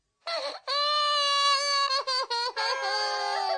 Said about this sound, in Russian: Тише, тише. Вот тебе мороженое, и только не плачь.